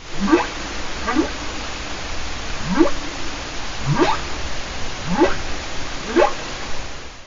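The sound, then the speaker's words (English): A humpback whale calls in a series of six rising, whooping upsweeps, each about a second apart, climbing from a low moan to a higher pitch over a steady hiss of background noise. “of two ocean-going creatures, a humpback whale and a leech's storm petrel”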